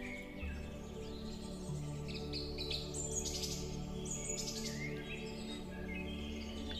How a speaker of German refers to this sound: Um dich herum leuchten die Bäume in einem satten, frischen Grün und die Vögel, sie zwitschern ihr Lied.